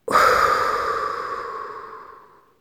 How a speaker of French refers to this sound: Inspirez profondément pour vous dynamiser. Soufflez fortement.